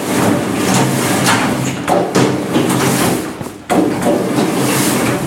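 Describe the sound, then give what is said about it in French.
Boots being scrubbed, rinsed and disinfected before entering the Nomade des Cévennes snail farm: a steady, loud rushing hiss like spraying water, broken by a few dull thuds and brief pauses, with no talking. “Alors on va passer au nettoyage de bottes.”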